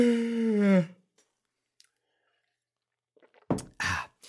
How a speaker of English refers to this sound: I can't drink water as stealthily anymore because I'm no longer allowed by myself to have it anywhere near my computer. So I have to like reach behind. I have to give myself a reach around to get my water.